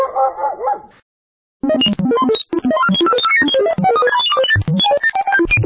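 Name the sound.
dog barking and whimpering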